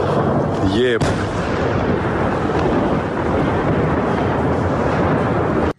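A wavering, rising whine gives way to a sudden loud explosion as a drone strikes a barrel at the Novorossiysk railway station, leaving a heavy, continuous roaring rumble lasting until the end.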